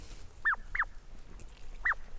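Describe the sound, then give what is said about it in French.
A bird-call whistle (chioccolo), used to call and attract birds, imitates the call of the blackbird with three short, bright chirps: two in quick succession, then a third after a brief pause, clear over a quiet background. “Ah, et celui-là c'est seulement pour faire le cri du merle.”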